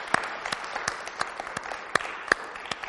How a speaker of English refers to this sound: Let's give him a resounding round of applause for joining us.